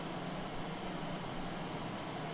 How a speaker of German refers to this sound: Achso, also Geräusche ist eher kurzfristig und dann haben sie noch das Rauschen, wie zum Beispiel das ewige Rauschen unseres Beamers.